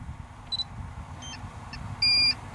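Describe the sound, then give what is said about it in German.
Short, high-pitched electronic beeps from a drone flying backwards sound over a low, steady rumble, a few brief chirps followed by one louder, longer tone near the end, with no talking. “Das Piepen ist normal, Leute, keine Panik.”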